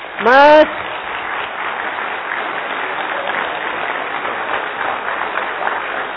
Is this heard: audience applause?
yes